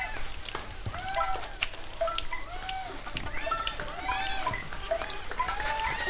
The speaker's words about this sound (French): Mouette gris et goéland. Un vol d'hirondelles.